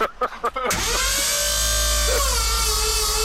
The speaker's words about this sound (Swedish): Det kostar enorma mängder el detta och höja och sänka din båt här. Ja, det är för jävligt.